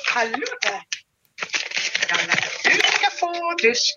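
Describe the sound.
A bag of dog treats for a dog named Tao rattles and crinkles in busy, loud bursts, pausing briefly after the first second before shaking on steadily, with faint voice-like sounds mixed in.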